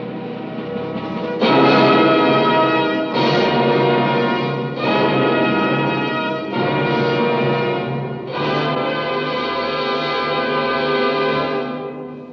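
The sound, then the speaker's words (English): A church bell tolls five times at a slow, steady pace, each loud strike ringing out and blending into a long, shimmering hum before the next. No one speaks. “The bell is tolling in Christendom.”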